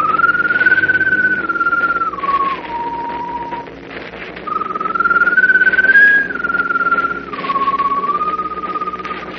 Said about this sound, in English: As though echoing the doctor's pronouncement of impending doom, the strange glowing bird perched on top of the mast whistles mournfully.